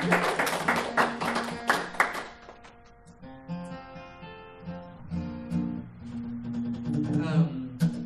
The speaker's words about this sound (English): Here's the clap.